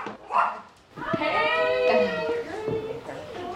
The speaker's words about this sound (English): are having some coffee in their Sarasota home when their dog lets them know someone's at the door.